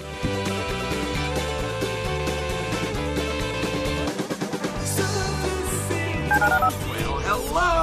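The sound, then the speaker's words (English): A rapid sequence of electronic telephone keypad tones dialing the ESPN radio listener line, short beeps stepping between pitches, sounds over a busy, steady musical backing with a brief dip midway before the tones resume. “Dial the phone.”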